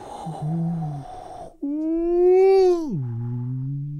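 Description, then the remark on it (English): An eerie, moaning howl with a rich, tonal quality, issuing out of a stone cavity with wind blowing out of it. A low wavering note jumps to a higher, sustained cry, which then slides down and trails off into a lower drone, echoing off the stone. “And the sound of howling is just issuing out.”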